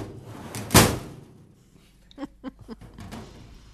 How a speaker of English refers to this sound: And I came up with using a file cabinet for the elevator gate closing sound in one of those old-fashioned elevators. Well, here, I'll give you the down cue. You ready? You ready? We're going down.